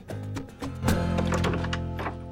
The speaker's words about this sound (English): Ted knocks on Robin's front door.